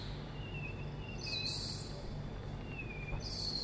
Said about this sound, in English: And those are monkeys, I think. They're squeaking.